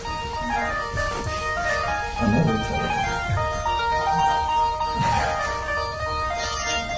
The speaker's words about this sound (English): I don't like that. No worse train of thought breaker than a cell phone.